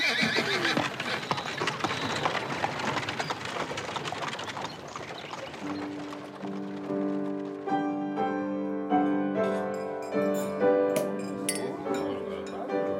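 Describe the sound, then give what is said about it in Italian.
A horse gallops toward Biffi: rhythmic galloping hoofbeats thunder along with a horse's whinny, then the pounding gives way to bright, sustained jingling and clinking tones that pulse in a steady beat. “Allora, al galoppo da Biffi. Forza, Paolino!”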